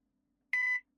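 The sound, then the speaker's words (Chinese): A single voicemail recording beep sounds after a moment of silence: one clear, steady electronic tone lasting about a third of a second, loud, with no voices, signalling the start of a voicemail message after a called phone is switched off or unreachable. “拨打的用户已关机或暂时无法接通，您可以在低声后给他留言”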